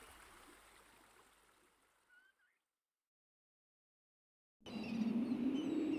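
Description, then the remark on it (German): A small brook flowing through a forest trickles and babbles steadily, slowly fading away as a bird chirps briefly. After a pause of silence, a louder, deeper rush of water sweeps in. “Durch den Wald fließt ein kleiner Bach.”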